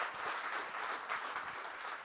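An audience applauds steadily, a dense wash of overlapping claps at an even, fairly loud level with no one speaking over it.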